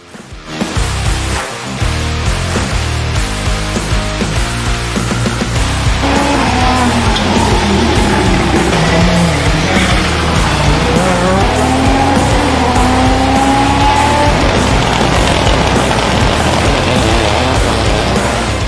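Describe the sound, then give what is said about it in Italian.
VRC Plus rally cars at the seventh Rally Vedovati roar past at high revs, engines rising and falling in pitch through gear changes, with tires squealing in sustained high whines. Loud and continuous, with no talking. “Allora ragazzi, buon ascolto, basta, bando alle ciance, guardiamoci il racconto di questa gara, ma soprattutto gustiamoci il sound, perché c'erano le VRC Plus che erano veramente fantastiche.”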